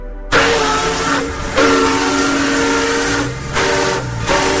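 A steam train with loud continuous hissing and a sustained whistle tone that briefly dips twice before swelling again; no one speaks.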